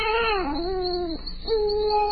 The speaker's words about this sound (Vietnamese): Hai bên tai hai người bỗng vang lên tiếng khóc thảm thiết của một đứa trẻ cùng tiếng đập vào cửa.